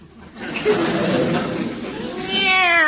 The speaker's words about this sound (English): Meow.